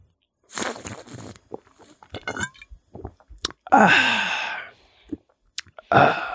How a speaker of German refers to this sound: Wollen wir mal kurz mal wieder eine Minute ASMR zwischenschieben? Ja, okay, komm. Weil es ja so nice ist. So, erstmal mein Schluck.